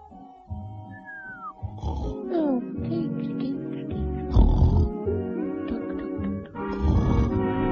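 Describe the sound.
A voice imitates the loud snoring of Bunter, 'the fat owl', sleeping on a drowsy summer afternoon: repeated throaty snorts and grunts alternating with whistled exhales, rising and falling in a steady sleepy rhythm, fairly loud.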